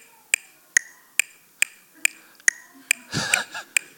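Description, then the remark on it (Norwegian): A metronome clicks steadily, about ten sharp, bright ticks evenly spaced roughly every 0.43 seconds, with a brief rustling noise creeping in near the end between clicks. It is the click heard in the musicians' ears while playing in a worship band. “Og da i ørene, mens vi spiller, så hører vi dette. Dette en metronom.”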